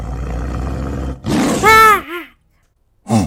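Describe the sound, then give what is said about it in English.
A loud saber-tooth tiger roar rises out of a low rumbling bed of noise, a long snarling growl followed by a shorter snarl and a final brief roar after a pause. “That is saber-tooth tiger. Very vicious.”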